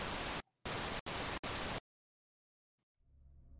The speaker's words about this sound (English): I despise the sound of static. The vast emptiness of its white noise is heavily unsettling to me.